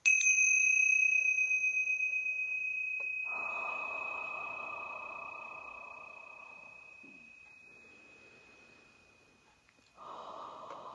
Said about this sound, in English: And we'll ring the Tingsha bells to open that beautiful portal here.